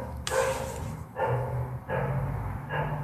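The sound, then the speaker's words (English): A dog in another apartment across the hall barks in a steady run of about four barks, each a short burst, sounding somewhat muffled, with no one talking over it; it barks every 10 minutes. “Can y'all hear that fucking dog?”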